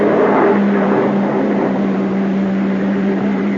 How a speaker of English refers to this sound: Uniform car pulling up.